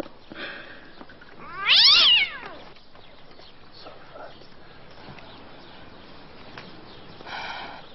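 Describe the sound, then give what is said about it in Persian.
A hungry cat being fed kebab lets out one loud, drawn-out meow, rising then falling in pitch, with quieter voice-like sounds before and after against a low background hum. “پیشی پیشی پیشی، چه گربه نازیه، نگاه کن چشاشو.”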